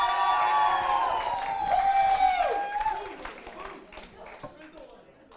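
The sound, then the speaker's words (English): A crowd breaks into clapping and cheering, with loud whoops and shouts riding over a steady patter of applause that gradually thins out over about five seconds. “Now clap.”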